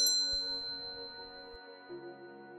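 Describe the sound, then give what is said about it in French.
A small Tibetan bell is struck during a guided relaxation: its bright metallic ring lingers and slowly fades, followed by a second soft strike with a lower humming tone near the end. No voices. “Et maintenant, je vais faire retentir cette petite cloche tibétaine.”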